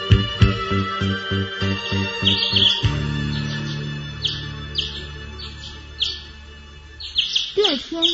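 Small caged birds chirp and twitter before sunrise in quick, high bursts that repeat throughout, some bright, over a steady low rumble in the background.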